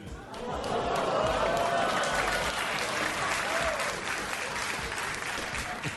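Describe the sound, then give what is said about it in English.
A live audience reacts loudly, a low groaning boo from the crowd blending into sustained, dense clapping and cheering that stays strong for several seconds. “I love the booing into applause.”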